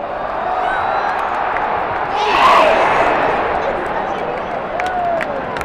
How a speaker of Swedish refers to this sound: Publikens entusiasm över det svenska lagets insatser visade sig inte bara genom jubel och applåder.